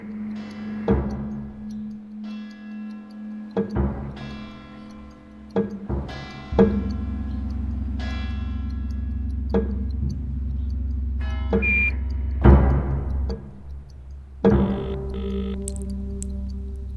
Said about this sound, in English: For me, the noise of time is not sad. I love bells, clocks, watches.